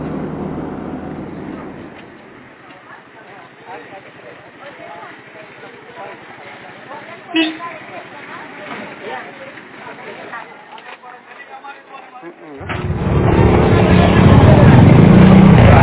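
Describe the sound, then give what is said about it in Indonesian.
The engine of a public minibus (angkot, locally called a taxi) serving Wosi market in Manokwari Barat rumbles loudly at the start, fades under a stretch of talking, then roars back up steady for the final few seconds. “Lokasi yang strategis berada di pusat keramaian kota sehingga memudahkan masyarakat untuk mengaksesnya dengan naik mobil angkutan yang mereka sebut taksi.”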